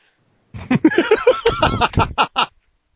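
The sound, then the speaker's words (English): A person mimics a duck with a quick run of nasal, raspy quacks, about eight or nine bursts over two seconds, fairly loud, with no other talking. “They're like, sir, what do you mean you are a duck? And I'm just like, quack, quack, motherfucker.”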